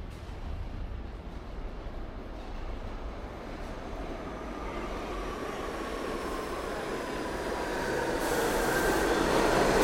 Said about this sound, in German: Machen Sie schnell. New York U-Bahn erwartet nicht.